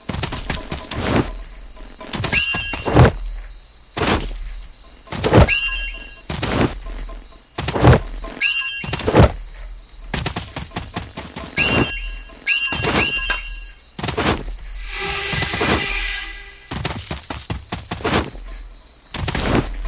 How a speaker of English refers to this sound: those explosions over there?